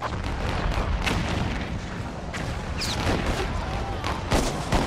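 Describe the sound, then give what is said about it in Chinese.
Artillery fire rumbles continuously, with several heavy booming blasts spaced a second or so apart and a brief whistling shell streaking past before another explosion, loud; a shell fired over Charleston Harbor, South Carolina, exploding above Fort Sumter at dawn on April 12, 1861, opening the American Civil War. “一枚炮弹呼啸住飞过南卡罗来纳查尔斯顿港的天空，在位于查尔斯顿一个岛上的美国联邦军事基地萨姆特堡上空爆炸。”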